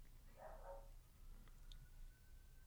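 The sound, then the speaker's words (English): A single short dog bark rings out early over a low steady rumble; afterward only a faint thin tone lingers in the background. “A dog and a fire.”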